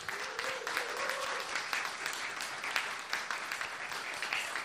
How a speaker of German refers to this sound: Herzlich willkommen und ein donnernder Applaus des anwesenden Publikums